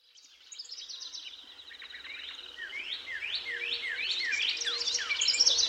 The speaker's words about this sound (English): Birdsong may be music to our ears, but we live in a world where it is harder and harder to hear it, or any natural, undisturbed soundscape, for that matter.